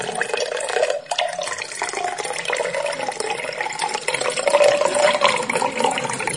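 A drink is poured steadily into a glass, a continuous close-up splashing and gurgling stream that rises slightly in pitch as the glass fills, with no talking over it.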